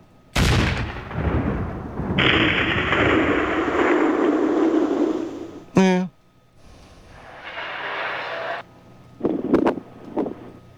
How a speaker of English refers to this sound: And then I want, explosion.